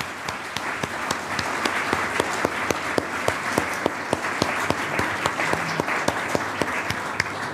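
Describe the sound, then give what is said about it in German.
An audience at an award announcement applauds the winning book, 'Die Schwerkraft des Kinderwunsches', steadily throughout: a dense wash of many hands clapping with sharper individual claps popping out in an irregular rhythm, sustained at an even loudness with no one speaking. “Applaus, danke.”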